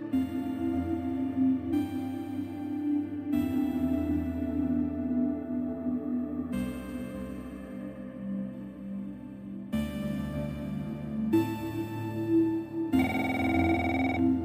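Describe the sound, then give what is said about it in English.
An office telephone rings steadily and insistently, its tonal electronic ring repeating in short bursts for several seconds, fairly loud, with no voices present. “I woke up to the phone ringing.”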